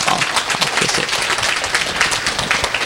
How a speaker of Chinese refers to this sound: 那么我们一起用掌声我们感谢他。